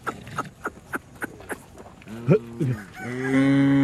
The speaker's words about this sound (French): Les vaches anguleuses au pelage clair se pressent à l'abreuvoir.